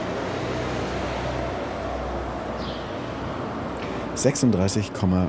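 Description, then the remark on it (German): A car drives by on a street, a steady broad rush of road noise that holds for several seconds before a man starts talking near the end; its speed is being measured from a balcony with a camera-based smartphone app. “Ist dieses Auto hier gerade gefahren.”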